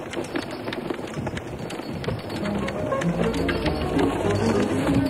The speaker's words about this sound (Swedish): Det stormade även vid statsbesöket till Island. Men nu var det regn och hårda vindar från Atlanten som uppmärksammades av massmedia.